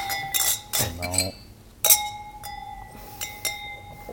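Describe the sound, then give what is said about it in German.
Wine glasses holding Premier Cru wine clink together in a toast, several bright ringing taps with lingering tones, with a short burst of voices in the middle. “Genau, also dann erhebe ich das Glas. Wir haben einen Premier Cru im Glas.”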